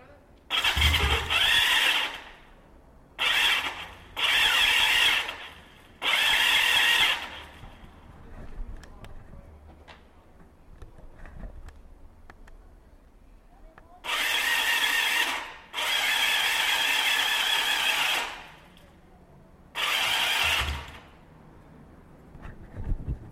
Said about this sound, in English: I'm going to try spinning it without letting the motorcycle start.